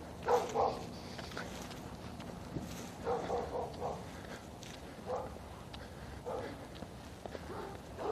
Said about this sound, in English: And it's a noisy set of dogs.